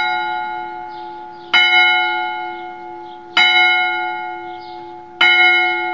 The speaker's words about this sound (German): Denn direkt gegenüber dem Gasthof war eine Kirche und deren Glocken schlugen jeweils viertelstündlich die Uhrzeit mit 1-4 Schlägen an.